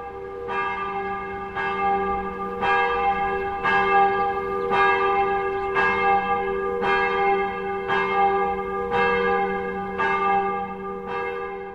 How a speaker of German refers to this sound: was bedeutet für Sie das Läuten von der Kirchenglocke?